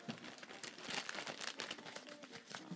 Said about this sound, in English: Paper towels. They can be chucked. Put them over there.